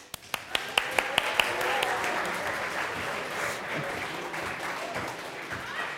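A crowd breaks into applause, opening with a few sharp, distinct claps that quickly blend into a steady, dense wash of clapping that carries on throughout, with faint voices murmuring underneath.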